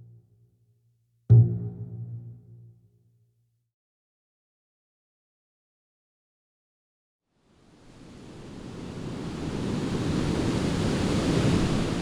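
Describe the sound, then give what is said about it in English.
After a single low resonant note fades into silence, a steady roar of ocean surf and a cool breeze coming off it swells in at Ocean Beach and holds for several seconds, fairly loud, with no voices. “A cool breeze is coming off the surf.”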